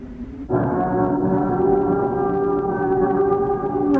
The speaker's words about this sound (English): By recording the strange croaks and creaks and groans and graunches of an iconic building in London, and then taking those sounds and using analogue tape to manipulate them, I think Robin Warren, the man behind this, has come up with an intriguing